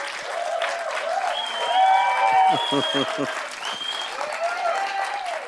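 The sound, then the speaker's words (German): An audience at an ICF Wien church service in Vienna applauds steadily in summer, a dense rush of many overlapping claps, with a few voices calling out over the clapping partway through. “Deswegen gibt es ja Sommer, damit man das Klatschen hört.”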